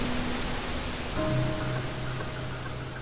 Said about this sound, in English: And with that, the screen turned to static.